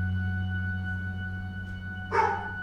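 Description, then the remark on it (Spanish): A neighbor's dog in Flanders gives a single short bark near the end, fairly loud, over a steady low electrical hum with no one talking. “El perro no está en el disco.”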